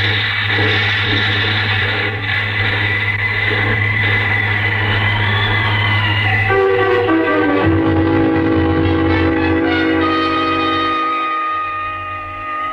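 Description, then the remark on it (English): A car engine drones loudly and steadily, then abruptly shifts halfway through into a rising, straining whine as the car plunges over the edge of a road with no barrier into a ravine, easing off slightly at the end. No voices. “You maneuver the car close to the edge, and then open the door on your side, and jump clear as the car with its grisly load plunges over the side.”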